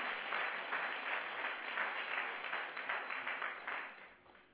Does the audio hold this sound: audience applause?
yes